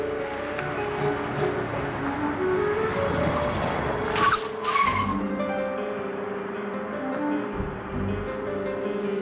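A car speeds through the city with a loud engine roar, then its tires squeal sharply in a brief skid around the middle, followed by continued engine rumble.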